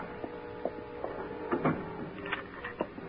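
A woman's footsteps after applause in a cafe, a series of soft knocking thumps at a slightly uneven walking pace over a low steady hum, with a few louder scuffing steps in the middle. No one speaks.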